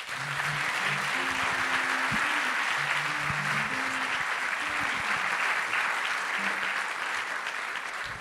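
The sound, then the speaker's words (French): Sustained applause from a large audience welcoming a speaker fills the whole stretch, a dense, steady wash of clapping at constant loudness, with faint low murmurs and brief tones underneath. “Merci de l'applaudir très fort”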